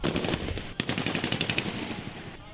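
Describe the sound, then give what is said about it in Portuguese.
Rapid bursts of gunfire crackle in quick succession, sharp repeated shots fired close together over about two seconds, loud and continuous with no voices; the shots are fired to disperse a crowd of hundreds of unarmed people in the street. “Mas em pouco tempo, houve disparos para dispersar a multidão.”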